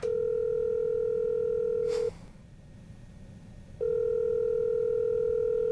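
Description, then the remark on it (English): A steady, low telephone dial tone hums alone, broken by a sharp click and about two seconds of near silence while dialing begins, then the same tone resumes unchanged, as a call is placed to tell a contest winner he has won. “Well, let's call Matthew and tell him he's won.”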